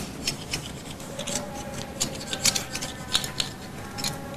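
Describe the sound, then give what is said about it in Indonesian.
Scissors snip repeatedly in a quick, uneven rhythm, producing short crisp clicks and rasping cuts, with no voices present. “Mau digunting gak? Apanya yang mau digunting?”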